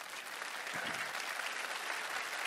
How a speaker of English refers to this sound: let's clap